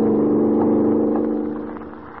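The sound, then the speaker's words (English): A car engine roars at speed, at better than a mile a minute, as the car hurtles through the darkness over a drawbridge: a steady, loud droning hum with a slight revving edge, easing off and fading a little toward the end. No voices. “Yes, there they go at better than a mile a minute, hurtling through the darkness over a drawbridge that shows a green light, but is wide open with only the deep, swirling river below.”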